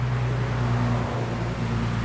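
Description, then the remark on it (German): A steady, loud wash of road noise with a low droning engine hum underneath, continuous throughout like vehicles rolling along a busy road in the Great Smoky Mountains. No one speaks. “Selbst wenn wenig los ist, gleicht der Sound der Great Smoky Mountains einer gut befahrenen Landstraße.”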